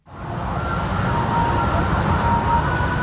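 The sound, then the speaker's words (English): An ambulance siren wails faintly over a steady, loud rumble of traffic and engine noise, at the scene of a school bus crash and fire just outside Bangkok, Thailand, where ambulances relay back and forth from the accident site. “Throughout the afternoon, ambulances relayed back and forth from the accident site, carrying the bodies retrieved from the blackened hull of the bus.”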